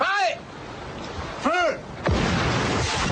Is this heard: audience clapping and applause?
no